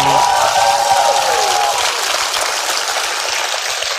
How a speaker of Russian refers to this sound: Мы можем поздравить жителей Ставрополя аплодисментами? Да.